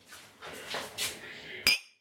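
A sharp, bright clink of glasses touching in a toast with a freshly made drink, clear near the end, preceded by softer clattering and rustling of tableware.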